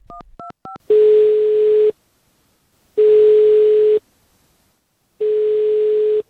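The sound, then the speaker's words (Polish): A few quick dialing beeps, then three long, steady ringing tones from a telephone, each about a second long with pauses between, as a call to foundation president Grzegorz Bakalarczyk rings with no answer. No voices. “Dziś próbowałem dodzwonić się do prezesa Bakalarczyka. Jego telefon milczał.”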